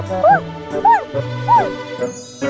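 A small dog named Doudou barks in three sharp, high yips at an even pace, followed by a couple of softer ones, over a steady musical hum in the background.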